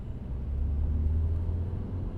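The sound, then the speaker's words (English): A steady low engine rumble from a car driving slowly past a row of units, even in level, with no voices. “I'll drive past and you look down and see how far they are.”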